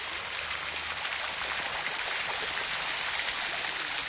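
A steady, dense hiss of shower water spraying continuously, even in loudness throughout, with no voices.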